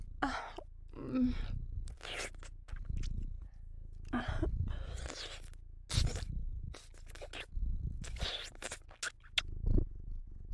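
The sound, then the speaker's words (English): A person imitates a cat's purr, producing a series of breathy, rolling rattles in uneven bursts separated by short pauses, fairly quiet and intimate, with no other sounds around it. “Am I allowed to purr on your cock?”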